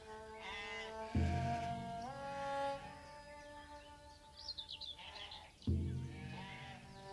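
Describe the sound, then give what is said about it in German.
Sheep bleat loudly, their wavering, nasal cries overlapping, with two heavier bleats standing out from a steady chorus of the flock. “Die Schafe müssen nie eine Entscheidung fällen.”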